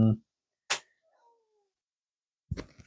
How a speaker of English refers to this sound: And there's a cat in the background. Obviously.